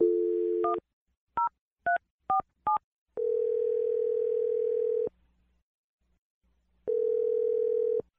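A steady dial tone, then four quick telephone keypad beeps in a row, followed by a long ringing tone, a pause, and another ring. No voices, close and clear.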